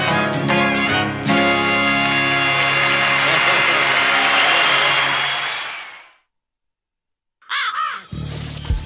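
A country song about taxes, played on Radio Bern, ends on a loud, ringing final chord that slowly fades into a second of silence, followed by a burst of harsh crow-like caws over a short music sting.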